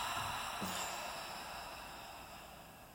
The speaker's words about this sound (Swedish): Så vi börjar med att ta ett djupt andetag in genom näsan. Håller lite lätt. Och öppna munnen och andas ut.